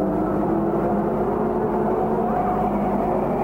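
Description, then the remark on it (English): A steady, loud roar of race car engines on the track holds at an even level throughout, with no distinct rise and fall of a single passing car. The race has run 91 laps with 9 to go, and the leader is lapping Bobby Barker. “91 laps have gone by. Only 9 laps to go. Here comes the leader, catching up with Bobby Barker.”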